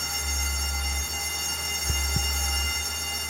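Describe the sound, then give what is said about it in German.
A tram rumbles steadily along its rails with a low, continuous drone and a faint metallic hum, broken by two quick clacks of the wheels over a rail joint. “Beinahe wäre ich in ein Auto gerannt. Und ein paar hundert Meter weiter in eine Straßenbahn.”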